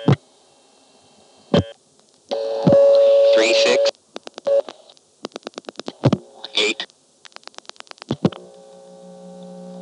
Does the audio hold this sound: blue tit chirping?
no